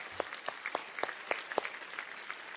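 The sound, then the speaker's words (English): A crowd applauds steadily, with many sharp claps overlapping into a dense, continuous patter. It is moderately quiet, and no one speaks over it. “And his wife, yeah, let's cheer for that.”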